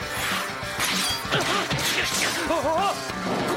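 boxing punches landing

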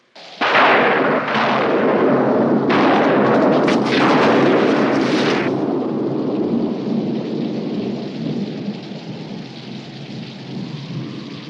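thunderstorm with rolling thunder

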